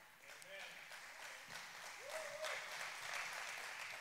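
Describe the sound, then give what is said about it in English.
A church audience at Vertical Church bursts into steady applause, dense clapping filling the whole clip at an even, moderately loud level, with a few voices calling out beneath it. “There's sometimes I think people may say amen or clap. I didn't expect that one.”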